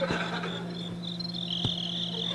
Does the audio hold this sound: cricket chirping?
yes